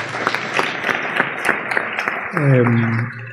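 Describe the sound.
An audience applauds for the show's technician with steady, dense clapping throughout, and near the end a voice rises above it with a drawn-out, tonal call or cheer.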